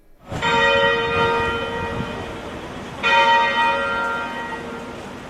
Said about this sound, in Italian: E ogni giorno questa settimana per 10 minuti le campane suoneranno nella cattedrale anglicana di San Giorgio a Cape Town, proprio in memoria di Tutu.